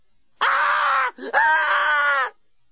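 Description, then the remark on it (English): A person screams uncontrollably in two long, loud, sustained bursts separated by a quick gasping breath, piercing, with no talking. “was by now screaming uncontrollably.”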